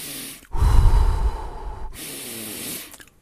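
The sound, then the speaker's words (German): A slow, deep diaphragmatic breath into the belly, hands resting on the belly: a long, full inhale with a low rumbling rush, a brief pause, then a steady airy exhale. No talking. “Und auch jetzt versuchen wir mal nur in unsere Hände zu atmen.”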